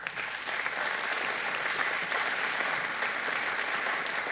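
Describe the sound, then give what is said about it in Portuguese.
An audience claps steadily for several seconds in tribute to Dona Helena Greco, a Brazilian historical figure in the struggle against the military dictatorship. A dense wash of many hands with no clear individual beats, holding an even level throughout with no voices on top. “Eu, nessa hora, inclusive, quero lembrar de uma figura histórica que está viva nos nossos corações e nas nossas mentes, que eu peço a salva de palmas, que é Dona Helena Greco.”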